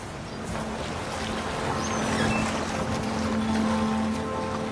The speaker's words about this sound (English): Dark grey waves pound on pebbles in the half-light of a winter's day.